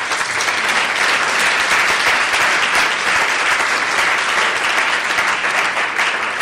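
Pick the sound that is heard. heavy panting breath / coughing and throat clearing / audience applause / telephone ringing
audience applause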